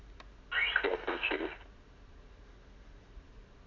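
A phone rings once in a short electronic ringtone burst lasting about a second, moderately loud, then a faint hum remains with no talking.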